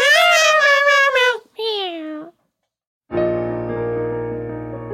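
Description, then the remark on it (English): Two drawn-out, wavering meow sounds, the second sliding down in pitch, made by a voice imitating a cat, followed by a short silence and then music starting up. “Yes, cats, you can have some of the dollars. Meow, meow, meow, meow, meow.”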